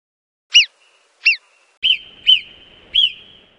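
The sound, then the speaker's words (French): Five sharp, high-pitched whistle calls ring out in an uneven series, a marmot's alarm whistles, loud, the later ones trailing into a faint steady tone. “C'est une marmotte.”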